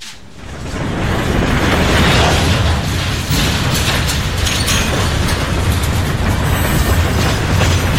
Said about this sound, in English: The train came to a halt inside the dark shadows of the canyon walls, and we abandoned it.